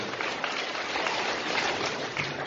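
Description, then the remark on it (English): An audience applauds the people who hold meetings in prisons, with dense, steady clapping that holds at an even, fairly loud level for the whole stretch. No voices break through the crackling wash of hands. “Applause for them.”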